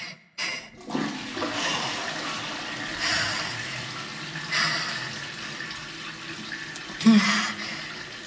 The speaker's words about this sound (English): I guess I better flush.